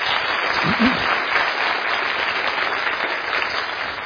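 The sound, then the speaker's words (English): Sustained applause from an audience for men currently in the Teen Challenge program, a dense, steady wash of clapping at even loudness for about four seconds, with a brief murmur of voices underneath near the start. “Why don't we give these guys a warm round of applause?”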